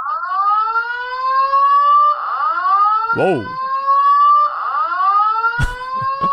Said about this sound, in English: Yeah, man, the fire alarm went off. Uh-oh. You want to go check on that? Yes, I have to.